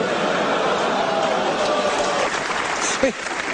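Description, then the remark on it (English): An audience lets out a sustained, low collective groan mixed with murmuring and scattered reaction noise, reacting to a line about working for the church, holding steady for several seconds before tapering off. “You hear that little groan when I said that, when I said you have to work for the church?”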